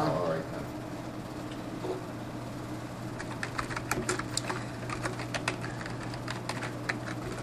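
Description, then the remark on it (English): Quick, irregular clatter of keys on a computer keyboard starts a few seconds in and continues steadily over a constant low electrical hum. “Bring that up again so I can finish typing it.”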